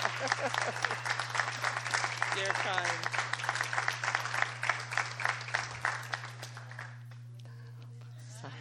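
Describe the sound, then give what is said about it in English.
An audience at a school board meeting applauds steadily as a standing ovation for a retiring woman on her last night, loud, dense clapping that thins out and fades over the last couple of seconds, while a voice speaks briefly over it. A low steady hum runs underneath. “Yeah, we should give you a standing ovation, no, Mrs.”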